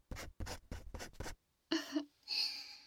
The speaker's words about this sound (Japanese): ああ、シチュエーションの希望はあるかしら。あったらこの紙に書いて。